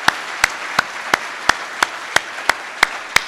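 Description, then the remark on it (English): An audience applauds, a continuous hiss of many hands with about ten sharp, evenly spaced claps standing out in a steady rhythm. No one speaks. “A big round of applause for all the committee members.”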